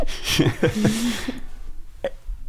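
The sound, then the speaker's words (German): Voiced burps forced out on purpose on request, a couple of croaky gulps in quick succession followed by a shorter burp after a brief pause. “Und kannst du auf Bestellung rülpsen?”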